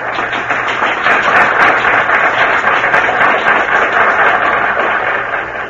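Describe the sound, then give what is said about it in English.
A theatre audience applauds at a curtain call, a dense, steady wash of many hands clapping that holds at a full level throughout, with no voices rising above it. “Couldn't have been so terrible if the audience is still applauding.”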